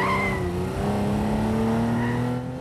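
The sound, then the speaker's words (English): An open-top sports car's engine roars steadily at speed down a freeway as it weaves from lane to lane, its pitch climbing slightly, with brief high tire squeals near the start and again toward the end. No one speaks. “drives them down the freeway in an open-top sports car, weaving madly from lane to lane.”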